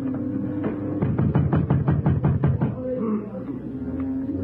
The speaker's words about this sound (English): Then I heard them try the door.